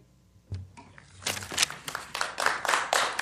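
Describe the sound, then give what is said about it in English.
Scattered claps from the audience at a Portland city council meeting quickly build into a dense, steady patter of applause that keeps going to the end, moderately quiet overall. “Folks, if you wish to show support, please put your hands up in the air rather than clapping.”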